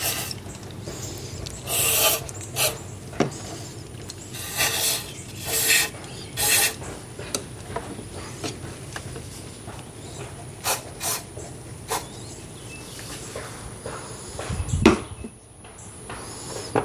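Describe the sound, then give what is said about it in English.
An old toothbrush scrubs grime in short, raspy bursts, bright bristly strokes coming in irregular clusters with brief pauses between, over a low steady background hum. No one speaks. “Okay, take the toothbrush and rub again.”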